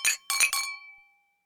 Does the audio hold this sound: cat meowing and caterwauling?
no